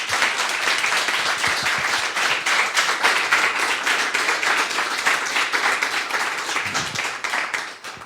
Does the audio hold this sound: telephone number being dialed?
no